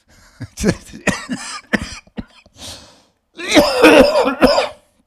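A loud run of sharp, hacking coughs comes in quick bursts, then after a brief pause a longer, harsher coughing fit follows. No one speaks.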